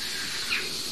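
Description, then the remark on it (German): A starling imitating a jackdaw gives a single short, squeaky call midway through, faint over a steady hiss of outdoor background noise. “Aber diese anderen drei Vögel vorher, alles unser guter Star.”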